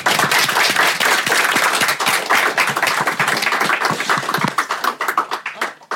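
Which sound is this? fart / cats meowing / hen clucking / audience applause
audience applause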